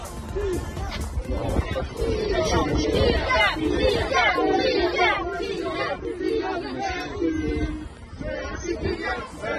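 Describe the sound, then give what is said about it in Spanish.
A large crowd of Paris Saint-Germain fans shouts and chants at Kylian Mbappé as he leaves training, a dense, continuous roar of many voices with rising chant phrases such as "Gracias, Kylian" and cheers, loud and sustained throughout. “Hoy Kylian salía del entrenamiento de los descartados por el Paris Saint-Germain y esto le gritaban sus aficionados.”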